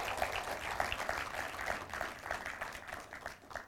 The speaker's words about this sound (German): Un aplauso a Cristo. Wer gibt Halleluja. Jesus einen Applaus? Halleluja.